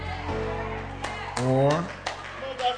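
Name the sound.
audience clapping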